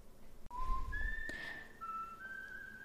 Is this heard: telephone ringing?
no